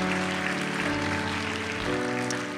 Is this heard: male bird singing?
no